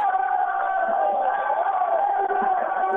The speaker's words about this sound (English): And there they are. What are they cheering,